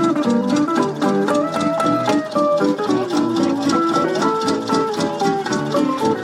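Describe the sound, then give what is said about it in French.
Lively street music played by musicians in the street, with a steady, chugging tractor engine underneath, its regular beat standing in for a drummer. The sound is loud and continuous throughout, with no one talking. “Eh ben, c'est pas une batterie, c'est un tracteur.”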